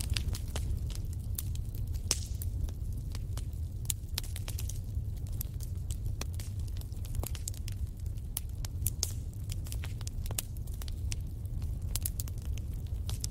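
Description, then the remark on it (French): A steady fire crackles and pops continuously, with irregular sharp snaps over a low, constant rumble of burning wood. No voices. “Le son du feu qui crépite à quelque chose de réconfortant.”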